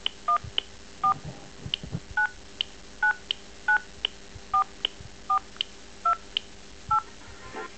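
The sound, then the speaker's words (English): A phone keypad dials a string of about ten DTMF tones, entering a 10-digit account number into Fido's automated phone line, each a short dual-pitched beep, pressed at a steady pace. The beeps are clear, with no voices. “Please note that when using this system, you can either tell me what you want to do, or you can dial the information using your phone keypad, like when you want to enter your phone number, for example.”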